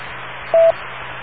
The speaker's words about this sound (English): I only heard one beep, but I think that's the way it should be at this hour.